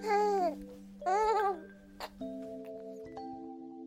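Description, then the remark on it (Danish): A baby who has just got its very first milk teeth babbles in two short, high, sing-song bursts, followed by a steady electronic tone with a soft click. “Ligesom vores søde lille baby her, som nu har fået sin allerførste mælketænder.”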